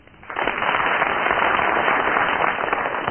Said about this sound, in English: I'm going to get the studio audience here and those of you listening at home to judge who so far has tied the best tie. They're well on the way. First of all, will you give your applause or otherwise for Barry Cryer?